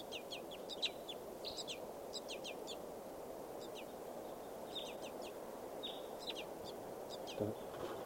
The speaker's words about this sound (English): Wild birds in flight. Don't see anything. They're flying around here somewhere.